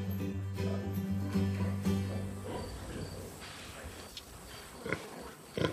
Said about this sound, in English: These pigs have not received any antibiotics in this herd for 14 years now.